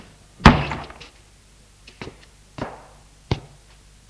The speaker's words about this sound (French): Je le prends par le bras, le fais rentrer et ferme la porte.